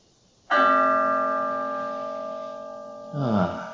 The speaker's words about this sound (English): The mindfulness bell says stop. Within. And listen.